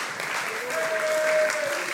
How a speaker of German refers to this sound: Ist ein Applaus wert, oder?